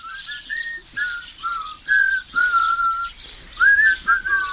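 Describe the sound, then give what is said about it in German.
People whistle while walking along a narrow path to the village's well-known Kieselweiher pond: a tune of short sliding notes and held tones, mid-pitched and fairly loud, in an unbroken melodic line with a faint rustle underneath and no talking. “Pfeifend befinden sie sich auf dem Weg zum dorfbekannten Kieselweiher.”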